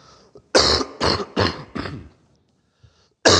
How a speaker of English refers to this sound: Excuse me. I've been coughing for about a month now. Probably should go to the doctor.